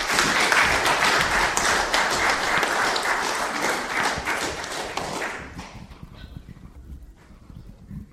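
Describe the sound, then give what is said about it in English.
A crowd claps loudly and steadily for about five seconds for two new members, then the applause quickly thins out and fades into scattered murmurs and quiet background noise. “Round of applause for our two new members.”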